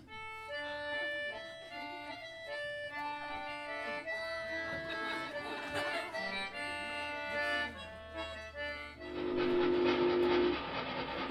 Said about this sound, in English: but now we've missed the train.